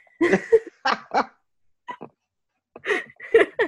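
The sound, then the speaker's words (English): A person imitates a dog, letting out a series of short, loud barks in irregular bursts with a few brief pauses between them, and no other talking. “First, you barked at me.”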